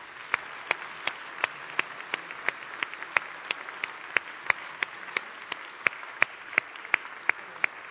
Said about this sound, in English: If anyone here had a mother, please stand. Let's give our mothers a round of applause.